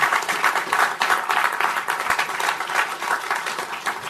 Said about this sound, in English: I want to give the commissioner a round of applause for participating today. Thank you.